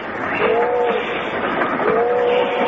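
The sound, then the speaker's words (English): A train rolls steadily along the rails with a continuous, fairly loud rumble and rattle, while brief whistle-like tones rise out of the noise twice. “I love to eat on trains, don't you?”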